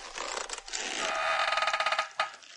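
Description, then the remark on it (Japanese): Wooden ox cart wheels creak as the cart moves along with no one pulling it, a strained, eerie, rasping groan that breaks into a quick run of rhythmic pulses, ending with one last short squeal; no one speaks. “傍車は誰も引いてはいないのに、ギー、ギーと不気味な音を立てながら進みます。”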